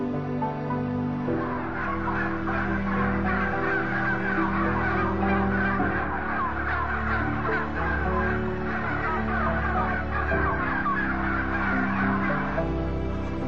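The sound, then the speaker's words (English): A dense, continuous din of many farmed poultry birds calling at once, gobbling and clucking overlapping into a steady roar, with a low mechanical hum underneath; some 60 to 90,000 birds crowded together in a single building. “As for their living conditions, anywhere from 60 to 90,000 birds can be crowded together in a single building.”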